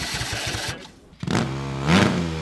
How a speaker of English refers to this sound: There we go. That second engine belongs to a hybrid race car built by the students at La Université de Sherbrooke in Quebec.